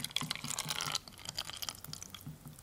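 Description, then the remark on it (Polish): Cabbage broth splashes and trickles as it is poured over eggs in a container, a dense gush for about a second, then lighter drips and dribbles. Moderately quiet, with no voices. “Jajka są już zalane wywarem z kapusty.”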